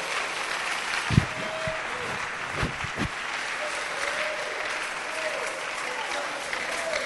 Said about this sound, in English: Hallelujah. It's practically difficult for me to tell you the deep meaning of your clapping.